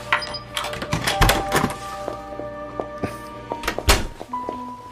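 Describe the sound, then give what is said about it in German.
A door is forced open with several heavy, irregular thuds and cracking impacts, all over a low, steady droning hum. “Öffnen Sie die Tür. Schnell.”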